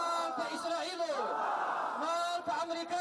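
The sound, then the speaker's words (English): A large crowd of Afghan protesters marching in Kabul shouts slogans in unison against Israel and the United States, in solidarity with Palestinians, waving Palestinian flags; a loud, continuous mass of raised voices with rhythmic surges and a brief dip near the end. “The protesters waved Palestinian flags and chanted slogans against Israel and the United States, saying they will stand with their brothers and sisters in Palestine forever.”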